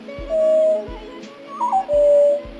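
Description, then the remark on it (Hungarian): Eurasian nuthatch calling with clear, loud whistled notes: two long, steady piping whistles with a shorter wavering phrase between them, over a few soft, low thumps. “A csúszka állandó madarunk lombos és lombelegyes erdőkben, parkokban, kertekben, idősebb fákodvában költ.”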